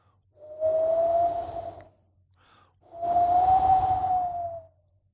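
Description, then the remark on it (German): Cold wind with a little sleet on a dark, early morning rushes past in two long gusts, each swelling and fading with a faint whistling tone, separated by a brief lull; no voices. “Man hört den kalten Wind und ein bisschen Schneeregen.”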